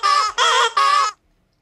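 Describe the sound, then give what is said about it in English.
A squeaky toy called Squeaky Gentleman Caller squeaks three times in quick succession, each squeak loud, high and reedy, lasting about a third of a second, with no voices present. “By the way, let me just bring out a squeaky gentleman caller.”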